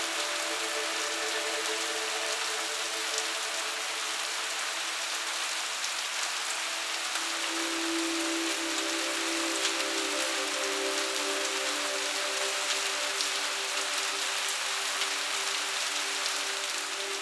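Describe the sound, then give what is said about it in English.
Steady, soft rain patters continuously over a city street, a dense even hiss of drops with a faint low hum of traffic underneath, no voices. “Or sometimes, the sound of a soft, gentle rain falling on a city street.”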